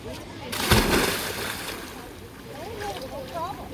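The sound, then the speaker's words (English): A loud splash as someone jumps into a cold river on Vancouver Island, followed by moving water and a voice exclaiming briefly near the end. “Whether or not you're camping, this is a beautiful little hike and spot to jump in the water.”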